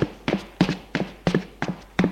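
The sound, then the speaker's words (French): Footsteps of people climb a staircase to the first floor of a small apartment building at a steady, even pace: about six or seven firm treads, each with a slight double scuff, and no voices. “Ils montent au premier.”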